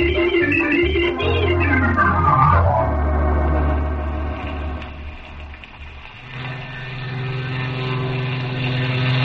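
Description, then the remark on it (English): A propeller airplane drones past overhead at an airport in the rain, its engine pitch sliding downward as it goes by, leaving a steady mechanical hum that swells again near the end. “Oh, I wonder if that was Uncle Harvey's plane.”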